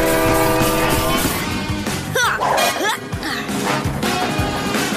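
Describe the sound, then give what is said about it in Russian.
A loud rail-laying machine clanks and rumbles continuously as it lays track, with sharp metallic crashes, screeching bursts and horn-like tones over a dense mechanical roar. No one speaks. “Давай, мой укладыватель! Больше рельсов! Больше рельсов!”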